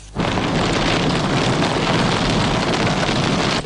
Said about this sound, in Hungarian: Így hömpölygött az eső ma délután Budán.